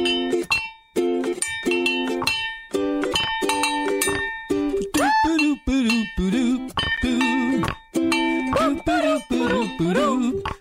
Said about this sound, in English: More frog bells. Who needs more frog bells?